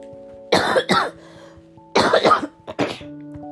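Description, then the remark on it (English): Several harsh coughs from a person getting over a cold come in two quick bursts, a short pause between them, then a final smaller cough, with a faint steady hum underneath and no talking. “My cough is just in the way today.”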